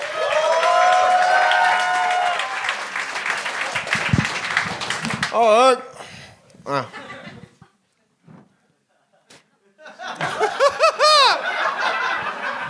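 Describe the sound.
An audience breaks into applause and cheering over upbeat music for about five seconds, then the clapping dies away and a man begins speaking amid brief pauses.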